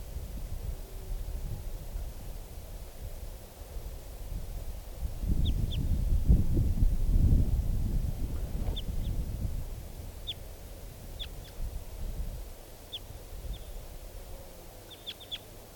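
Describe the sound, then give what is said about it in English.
A wild type 2 bird sitting on the top of a tree calls with brief, high, sharp chirps, repeated at irregular intervals over a steady low rumble of wind-like background noise. The calls are fairly faint, and no one speaks. “And it's calling, and also 387 is responding.”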